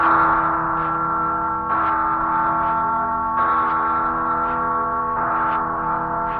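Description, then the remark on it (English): The Freedom Bell, a large bell, tolls loudly and steadily, struck about four times at even intervals, each deep ringing strike overlapping the lingering hum of the one before. “Listen, it's the Freedom Bell.”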